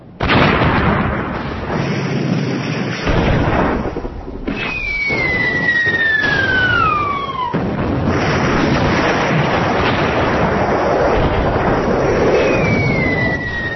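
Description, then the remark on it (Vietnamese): Loud, continuous enemy artillery barrage at Sa Cam on the An Lộc front on 13 June 1972, about 15 shells fired as five helicopters land: heavy booming explosions roll one into another while incoming shells whistle overhead in falling, descending tones, thunderous, with no voices. “Trực thăng chưa chạm đất đã nghe những tiếng xé gió, những tiếng nổ đinh tai nháng lửa.”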